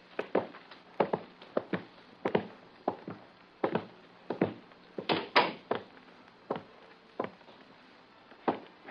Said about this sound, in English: There is an open door to your left. Go into it. The door will close.